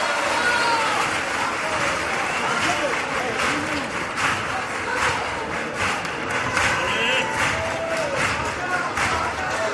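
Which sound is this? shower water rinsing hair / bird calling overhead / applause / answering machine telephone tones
applause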